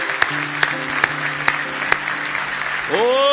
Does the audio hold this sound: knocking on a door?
no